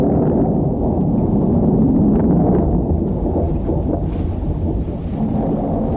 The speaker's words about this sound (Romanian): Asta e carul Sfântului Ilie. S-a înnegurat văzduhul a ploaie.